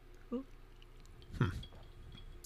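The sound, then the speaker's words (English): A quiet sip of tequila from a glass: a brief wet slurping swell in the middle, surrounded by faint mouth noises and ending with a light, sharp click. “I have heard of people keeping their tequila in the freezer. I have never thought of that until just now, but I'm not take very a many.”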